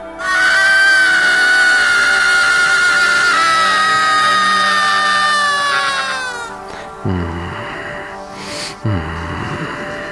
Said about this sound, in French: L'enfant qui crie, dans la culture picarde, cela signifie que son moi intérieur va être visité.